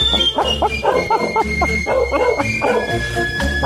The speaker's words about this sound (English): It's the Basset Hound Parade. It's the Basset Hound Parade.